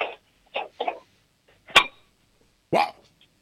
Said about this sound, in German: Lauf in die Küche und hol einen Kochtopf und schlag mal mit einem Löffel drauf. Das wäre ja jetzt super.